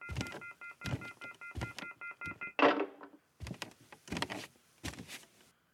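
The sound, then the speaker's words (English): A telephone that had been left off the hook for a long time blares its off-the-hook tone, a steady, high electronic pitch pulsing on and off, followed by a clattering handset thunk and several loud knocking clunks. “Our phone here at Nobody Listens to Paula Poundstone apparently has been off the hook for a long time.”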